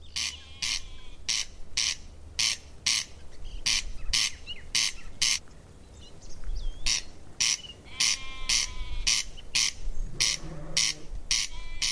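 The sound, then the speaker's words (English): A corncrake gives its dry, rasping call, a steady string of harsh double notes repeated over and over, with one brief pause, loud against a quiet rural background. “I suppose I'm from farming background, my father, and I always wanted to farm a bit of land myself, and a real interest in kind of biodiversity and corncrakes especially.”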